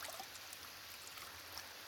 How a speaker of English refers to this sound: I'm in here in the bathroom. No, no, come in, come in. I'm just taking a shower.